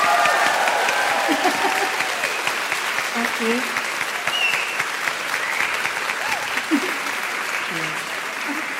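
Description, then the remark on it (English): An audience claps steadily for several seconds for a guest at the end of a live interview, a dense, continuous wash of applause, while a few brief voices speak over it. “Please give it up for”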